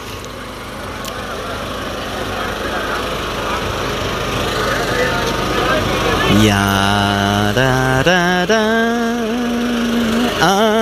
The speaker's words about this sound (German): Aber der Wagen, der rollt.